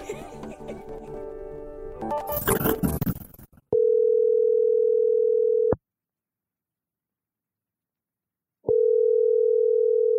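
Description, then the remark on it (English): A telephone ringback tone sounds twice, each a steady two-second electronic purr separated by a few seconds of silence, right after a brief burst of dense, busy sound. No one talks. “All right, we are going to start with a phone call.”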